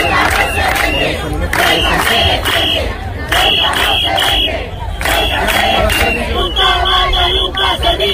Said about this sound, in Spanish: El gobierno trabaja para reubicarlos en nuevos espacios, pero el malestar no ha dejado de crecer entre la población ceutí. Este sábado ha habido una nueva jornada de protestas.